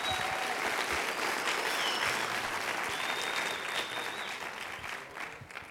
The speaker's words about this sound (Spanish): ¡Aplauda más fuerte! ¡Entusiánmese!